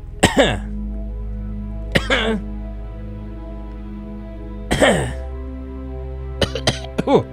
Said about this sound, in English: I'll just cough for like 2 minutes and then I'll play another song.